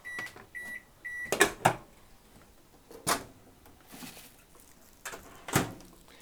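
A few short electronic beeps, then scattered hard clattering bursts as frozen broccoli pieces are tipped into a pot with pumpkin. It is moderately loud, with quiet pauses between the drops.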